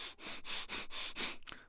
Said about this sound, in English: Just do the breathing in and out through your nose without all that extra physical motion. And again, the first stage is doing that fast, deep breathing.